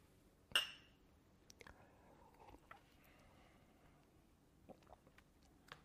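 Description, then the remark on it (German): Two glasses of drink clink together once in a toast, a bright ringing chime that fades quickly, followed by quiet with a few faint taps and clicks. “Lass uns nochmal anstoßen.”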